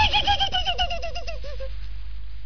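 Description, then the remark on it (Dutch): A human voice imitates a horse's neigh: one loud, shaky whinny with a fast warble that slides downward in pitch and trails off after a second or so, heard alone. “Een paard, dat is een groot wit beest, net met de Sinterklaas op zijn rug. En hij maakt zo'n geluid”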